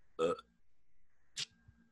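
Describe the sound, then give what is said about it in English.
A short, gurgly burp, followed about a second later by a second, briefer throaty burst; no talking in between. “Sorry for that burp.”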